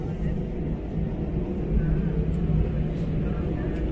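A steady low rumble of an A330 airliner's engines as it taxis along the ground to its stand at the airport, a continuous droning hum that holds at an even level without pause.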